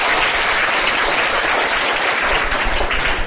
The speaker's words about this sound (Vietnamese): Chúng ta cho một tràng pháo tay khen các em nè.